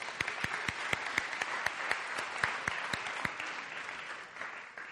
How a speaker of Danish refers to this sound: Ja, vi skal lige klappe først.